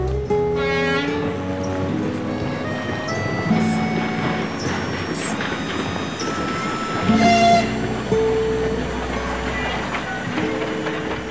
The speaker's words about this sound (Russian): Поезда не формируются, а проходят мимо, поэтому надо успеть загрузиться. Поезд не авто, ждать не будет. Это Кинель.